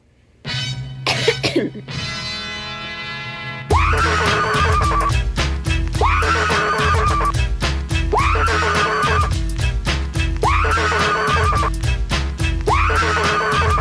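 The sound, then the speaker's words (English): A woman in a viral online video lets out shrill, strained screams for the first few seconds, then a loud, steady rhythmic beat with a repeating musical pattern takes over for the rest. “What is it with all these TikTok videos of bitches just screaming?”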